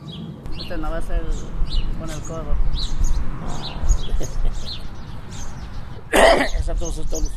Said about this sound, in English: He did not cover the cough either.